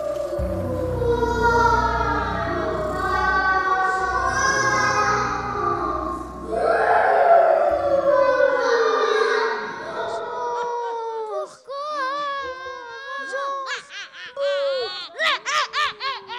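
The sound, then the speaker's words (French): A crowd of children's voices murmurs and chatters together, then individual high-pitched wailing cries rise near the end, fairly loud, with sobbing, wavering tones. “On entend des pleurs, murmures d'enfants.”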